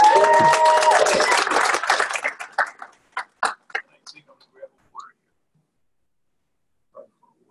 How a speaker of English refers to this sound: So everyone who has participated in any of our fundraising, the grocery stores and the like, and the Boscovs, and at the comedy night, applaud yourself. You guys did a great job.